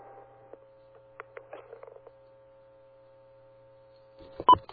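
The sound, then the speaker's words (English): A steady, quiet conference phone-line tone hums under scattered clicks, then a short, loud beep near the end marks a caller joining the line. No one speaks. “But anyway, I heard somebody else beep in.”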